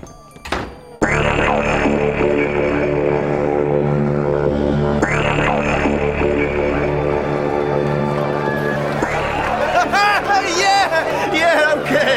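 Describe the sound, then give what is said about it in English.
A dense studio crowd chatters and murmurs continuously, pleased to see the two remaining contestants of a television contest, a steady wall of overlapping voices that swells with excited, cheering tones near the end. “I think you can tell that our crowd here are quite pleased to see you.”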